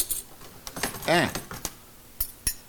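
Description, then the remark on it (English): Metal spoons, dairy little and big spoons, clink against each other in a handful of sharp, irregular taps as they are sorted, with a brief voiced murmur partway through. “Dairy little spoon. Dairy big spoon. Fuck, I mixed up the big and littles.”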